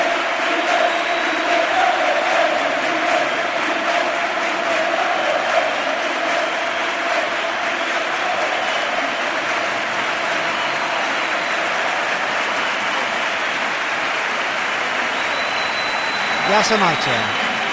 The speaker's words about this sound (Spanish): Y Lopetegui, que se lleva porque ha ganado la Europa League. Y se marcha ya del Sevilla. Levanta la mano. Ahora sí la ovación. Ahora sí la entiendo.